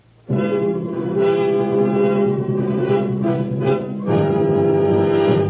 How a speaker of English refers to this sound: And then, at the proper moment, there would have been a fanfare to proclaim the heightening of the drama.